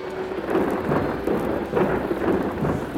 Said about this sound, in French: Qu'est-ce que c'est que ce bruit? Dieu nous envoie un orage. Le vent hurle. La pluie tombe à verse. On dirait des poids qui frappent le toit et les vitres. Tu entends? Les abîmes célestes se sont ouverts.